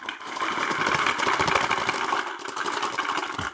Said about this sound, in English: All right, so let's try this game. Let's do some dice shaking.